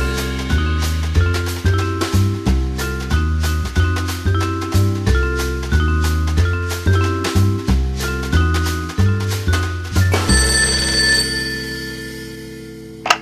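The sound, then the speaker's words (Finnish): A telephone bell at the Kielitoimisto language advice telephone service, in a radio drama set in the 1940s, rings in quick, rhythmic bursts that repeat steadily for about ten seconds, then gives way to a longer sustained ring that slowly fades. No voices are heard. “Kielitoimistossa, maisteri Suominen puhelimessa.”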